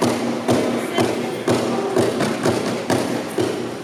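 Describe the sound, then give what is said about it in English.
Dance percussion by a band, part of the Performing Arts Residency Program at San Diego International Airport: loud stomping and drumming with heavy thuds landing on a steady beat about twice a second over a dense, continuous layer of tapping and rattling rhythm, with no voices. “What you're hearing right now is the dancing and percussion of a group called …, spelled ….”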